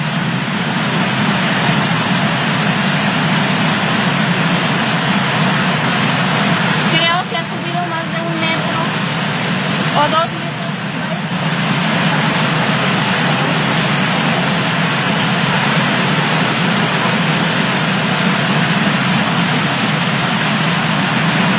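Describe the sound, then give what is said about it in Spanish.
A loud, continuous roar of rushing floodwater from the river in Zapotlanejo sweeping away vehicles and knocking down walls, steady, with a couple of brief dips in intensity partway through. “El ruido de fondo es el sonido de la fuerza del agua que arrastra a los vehículos, está tumbando los muros”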